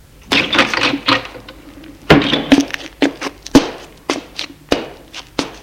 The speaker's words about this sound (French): La porte de la chambre s'ouvre.